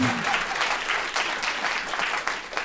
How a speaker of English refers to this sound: So you can applaud for that.